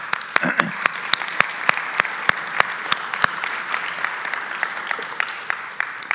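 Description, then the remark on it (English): An audience at Watermark Wesleyan's South Creek campus claps steadily for mothers during a morning church service: dense overlapping handclaps with a few sharp standout claps near the front, sustained for several seconds at moderate loudness without talking. “Yes, we can give a round of applause to our mothers this morning.”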